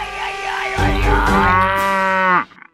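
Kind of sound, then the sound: animal, cow mooing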